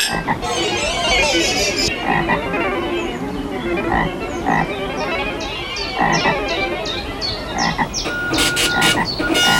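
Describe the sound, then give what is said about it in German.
Frogs croak steadily from the bird bath in Oma Erna's garden, a dense chorus of overlapping, rasping calls with quick repeated chirps layered on top and no voices among them. “Empfehlung für kleine Menschen ist durchaus zum Baden geeignet, sofern man sich nicht von den Fröschen gestört fühlt hier.”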